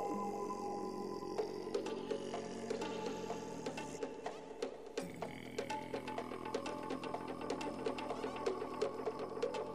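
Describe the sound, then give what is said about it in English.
A steady electric fan hum in the south of Spain drones through a Skype call line, with a buzzing, rattly mechanical texture and faint ticking. It is continuous, with no one speaking. “Turn that fan back on, Nick. Yeah, exactly right, at which point you'll hear this horrible hum come up on the Skype”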